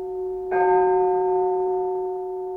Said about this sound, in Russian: А теперь давайте снова послушаем звон колоколов.